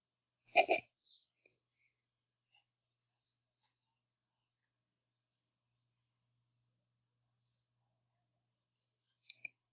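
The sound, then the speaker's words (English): A short, abrupt burp sounds near the start, followed by long near-silence broken only by faint, scattered clicks and a brief sharp burst at the very end. “… burps.”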